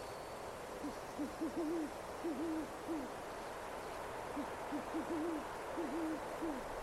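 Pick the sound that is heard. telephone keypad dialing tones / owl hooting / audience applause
owl hooting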